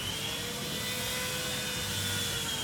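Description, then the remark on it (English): A chainsaw runs steadily for a couple of seconds, its engine giving off a constant, buzzing drone with a thin high whine on top and no voices. “Yep, that's the chainsaw, but it's not for taking down trees or a horror movie prop.”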